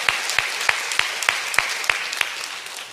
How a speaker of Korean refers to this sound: 이렇게 명답이 나오면 우리는 박수로 화답합니다.